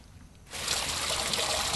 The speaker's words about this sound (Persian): بیا عزیزم، گمونم آب گرم شده. فشارش تعریفی نداره، ولی بدم نیست.